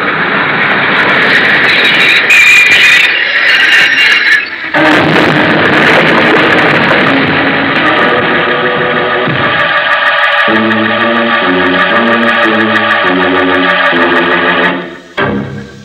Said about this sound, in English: See? The train's come in.